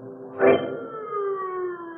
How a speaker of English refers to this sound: The sound of the sirens howled in his ears like the wail of an avenging demon as the man ran from the gaunt gray building behind the high wall.